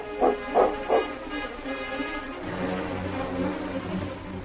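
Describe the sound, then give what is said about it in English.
A husky sled dog team, led by the lead dog King, barks three times in quick succession, loud, then gives way to a steady, droning background that carries on to the end. “With his powerful lead dog, King, setting the pace, his dog team, the fastest in the North Country, covered the miles in record time.”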